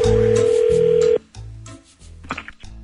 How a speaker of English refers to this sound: I'd be careful answering that call. It could be another Z Morning Zoo phone scam.